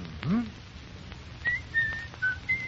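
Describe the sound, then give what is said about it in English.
Someone whistles a few short, separate notes of a tune, fairly soft. A brief low vocal sound comes just before the whistling starts. “Second, if you feel yourself slipping, shut out the immediate irritation by some soothing action, such as reciting a poem, humming a song, or even whistling.”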